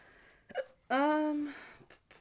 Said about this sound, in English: Gave you the hiccups.